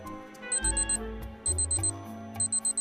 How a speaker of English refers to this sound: The time reads 4 o'clock. Galleria lunges over Chanel to turn off the alarm